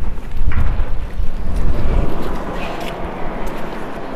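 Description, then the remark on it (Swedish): Steady cold wind blows outdoors on a farm, buffeting the microphone as a continuous low rumble that surges and eases over a few seconds, with no voices. “Nu blev det lite för kallt i vinden, så vi flyttade in i en hall.”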